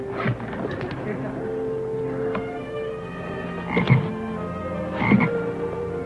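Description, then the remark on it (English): A toad croaks in a deep, throaty, ringing tone, with a steady drone of croaking running throughout and two louder, raspy croaks standing out near the end. “Would you like to see a great toad that can leap close on 12 yards?”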